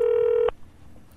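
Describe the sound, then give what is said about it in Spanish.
A single steady telephone keypad tone sounds for about half a second, loud, then cuts off abruptly into faint room noise. “Nos ponemos en contacto con Darek. Roberto, cuando quieras.”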